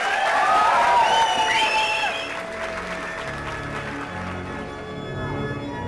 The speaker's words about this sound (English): Ladies and gentlemen, can we have a big, big round of applause for the best drummer today?